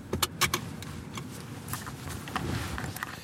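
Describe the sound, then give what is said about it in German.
The engine of an ordinary production car idles with a steady low rumble before driving to the motorway, joined by a few sharp mechanical clicks and light rattles near the start. No one speaks. “Es ist ein ganz normales Auto. Motor läuft.”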